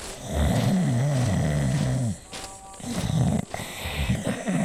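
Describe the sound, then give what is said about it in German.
Loud, rumbling snoring from a postal official asleep at the pagoda of the Yon-Yo temple: a long, wavering inhaled snore, a brief pause, then another rattling snore with no talking. “erreichen sie die prächtige Pagode des Yon-Yo-Tempels und werden dort von einem schnarchenden Jigvi begrüßt”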